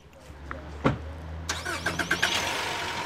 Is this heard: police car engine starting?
yes